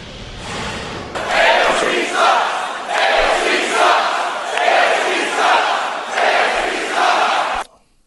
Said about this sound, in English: They are chanting her initials. You heard the word that followed.